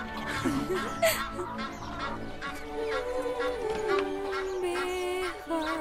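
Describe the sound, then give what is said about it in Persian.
A hen calls: a few short, throaty clucks followed by a long, drawn-out wavering note, fairly loud over a faint background hum. “چه مرغ نازی، آفرین”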